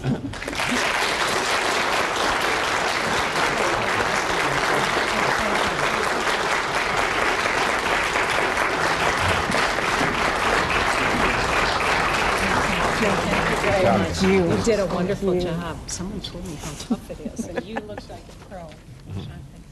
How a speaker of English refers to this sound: And now, the audience, which has been so patient and promised us it would hold its applause, may now do what it wants to do.